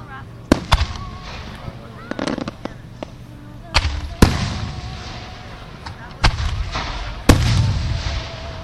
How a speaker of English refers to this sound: Now acrid smoke is beginning to fill the air as these fireworks go off and these embers start falling from the sky.